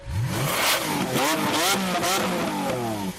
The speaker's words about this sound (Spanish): Este motor que es efectivamente, Antonio, el de un Lamborghini. A cualquiera le pasaría, no, bueno, pero este rugir además es que llevaba algo más, un plus, Antonio. Llevaba la bendición del Papa Francisco.